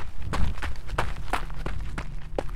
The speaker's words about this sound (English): As I completed the circle with my light, I noticed a small path. Without a second thought, I got to my feet and ran down the path.